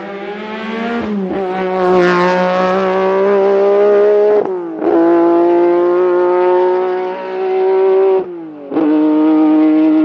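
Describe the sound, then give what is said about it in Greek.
A Lancia Stratos rally car engine revs hard, its loud, buzzy note climbing steadily before dropping sharply at about three gear shifts, then climbing again, with no voices. “Είναι ένα αυτοκίνητο που σχεδιάστηκε και κατασκευάστηκε με ένα σκοπό να τρέξει στα ράλι και να κερδίσει.”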